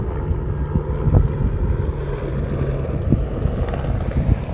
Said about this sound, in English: Before I continue, in the background you're going to hear a helicopter. That helicopter's bringing supplies every half hour, 20 minutes. Choppers come up and down the valley bringing supplies to base camp. Hear that in the background?